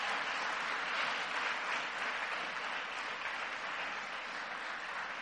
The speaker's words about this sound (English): Now give them a round of thanks, of applause for their service to the kingdom.